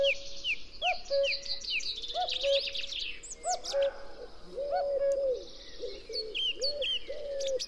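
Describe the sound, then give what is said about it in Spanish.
A common wood pigeon coos repeatedly in low, hollow, woody phrases in the foreground, while many small birds chirp and trill busily in the background, among newly leafed ash groves in the Lozoya Valley, Madrid, Spain. “También en primer término esta voz como de madera de una paloma torcaz.”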